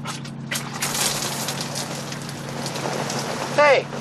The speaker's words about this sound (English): Hey, it's raining. You made it rain.